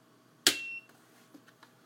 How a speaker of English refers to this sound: There's a very heavy rocker switch on the back. I'm going to power it up using the rocker switch.